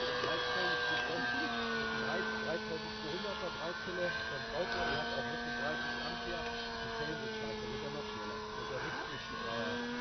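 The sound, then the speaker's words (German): A small single-engine propeller plane flying overhead, almost hanging still in the air; its engine drones steadily and fairly loudly for the whole stretch, its buzzing tone holding almost constant with only slight wavering in pitch. “Oh, hast du die Flügel gesehen? Mit einer Motor geht der steht doch fast in der Luft.”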